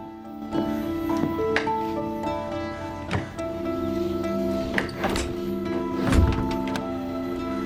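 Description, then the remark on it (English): A locked back door handle of a house is tried from the porch, giving several sharp clunks and rattles spaced irregularly over a steady, sustained musical drone. Nobody speaks. “She tries the door's handle. It's locked.”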